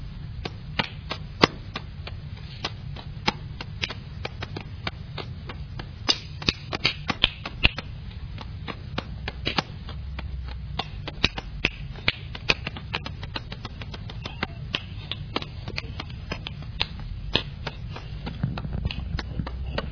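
Close-up finger tapping mixed with crisp clicking, a rapid, irregular stream of sharp little hits running steadily throughout, with no voices.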